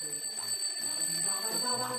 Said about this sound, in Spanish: Su mañana empieza a las 8:30 cuando suena el despertador.